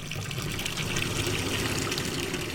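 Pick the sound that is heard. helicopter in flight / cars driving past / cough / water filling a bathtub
water filling a bathtub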